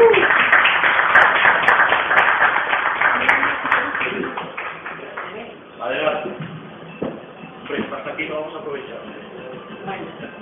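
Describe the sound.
An audience applauds loudly for the first few seconds, a dense patter of clapping that gradually thins out and fades as voices start talking over it.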